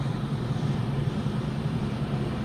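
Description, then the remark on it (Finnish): A steady, droning propeller engine of an old English two-seat Chipmunk tow plane hums continuously as it tows a glider into the air, climbing about 1.5–2 metres per second at nearly 100 km/h, with a dense low rumble and no voices. “Ja olemme ilmassa pieni veto sauvasta vaan ja liidämme jo saman tien irtoaa myöskin moottorikone.”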